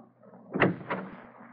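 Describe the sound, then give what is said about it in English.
A door opens with two quick clunks of the latch and frame, a fraction of a second apart, over a quiet low hum. No one speaks. “Don't shut the door. Leave it open.”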